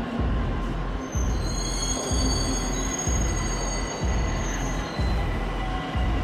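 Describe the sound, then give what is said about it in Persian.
A metro train rolls into a station platform with a steady low rumble, high metallic wheel squeals drifting across the top, and regular rhythmic thumps of wheels over rail joints roughly once a second, loud. “قطار در حال ورود به ایستگاه این باشد.”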